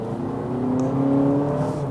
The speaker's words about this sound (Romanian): Acum suntem în modul sport și ăsta este cel mai fake zgomot de motor sport pe care l-am auzit. Ia. Nu înțeleg de ce fac producătorii chestia asta.